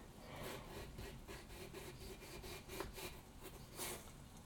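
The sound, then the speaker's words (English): A knife saws back and forth through a large potato, cutting it in half lengthways for potato wedges, in quick, steady strokes, each one a soft scraping rasp, repeating evenly with no talking. “If you use a sawing motion, it's a lot easier to control what you're doing.”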